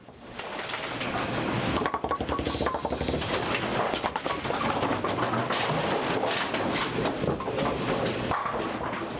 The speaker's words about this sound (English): Most of us are familiar with the way a bowling ball sounds when it hits the pins from the front end of a lane. But the noises we just heard are the sounds from behind the pins and the machine that picks them up and places them back down again.